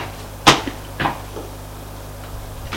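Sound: door closing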